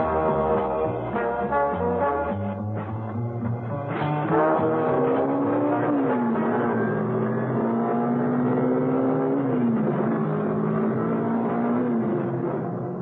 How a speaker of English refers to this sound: out on the open road, Mrs. Peel was able to put on some speed. There was no traffic about, luckily, and the car responded like a rocket.